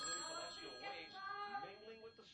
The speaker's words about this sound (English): Mom, the phone's ringing. Do you hear it?